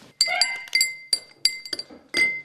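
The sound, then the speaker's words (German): Glass clinks and rings repeatedly as a drink is prepared by putting a sachet of granules into water, a series of bright, high-pitched chimes with sustained tones, irregularly spaced over a couple of seconds with no talking. “Das sind Beutel, die geben wir in Wasser.”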